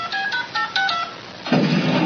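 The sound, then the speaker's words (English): A quick run of about five telephone keypad dialing beeps, clear, followed by a loud burst of rough, static-like noise that continues to the end. “Damn phone's busted. Maybe I dialed wrong.”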